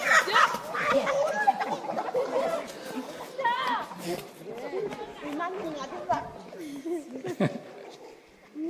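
A rooster squawks and clucks in agitated bursts amid a chaotic scramble as people chase it to catch it in the village of Ramorok, with several people shouting and chattering throughout.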